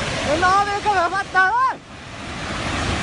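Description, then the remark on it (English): A steady, broad roar of rushing floodwater from a breaking dam in Laos fills the whole stretch, with a voice talking briefly over it near the start before the torrent continues alone. “This is a dam that breaks.”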